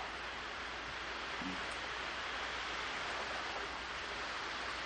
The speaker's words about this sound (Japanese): うん。めっちゃ雨降 ってる。めっちゃ雨降ってる。 吹いてるよ。